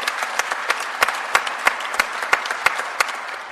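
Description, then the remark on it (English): An audience claps steadily, a dense wash of many hands with a few sharper individual claps standing out in an irregular rhythm, moderately loud and sustained throughout. “I think that's worth an applause.”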